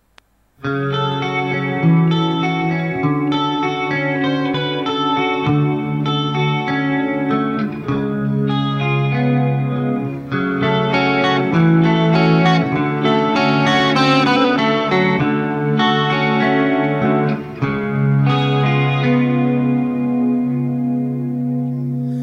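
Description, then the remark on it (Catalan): A slow 1987 hard rock power ballad guitar intro, with sustained, effect-drenched notes ringing out in a steady, moody progression, thick with chorus and reverb and no singing. “On hi ha possiblement una de les balades de hard rock més importants dels 80, Power Ballads, una de les Power Ballads, es diuen així, i que continua sonant perquè és una autèntica meravella.”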